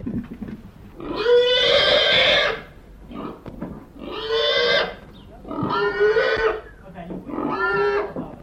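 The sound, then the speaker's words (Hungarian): A pig being slaughtered squeals loudly and shrilly in four long, strained bursts separated by short gaps, each cry harsh and desperate, with faint background noise between them; recorded from a distance on a cool early morning with fresh thin snow. “Most már menjenek hátra, s távolról én a sírás felveszem, mert gyáva vagyok, nem megyek oda.”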